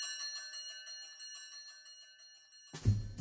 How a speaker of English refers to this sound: And as you can hear from the division bell ringing in the background, Jeremy Hunt has gone off to vote.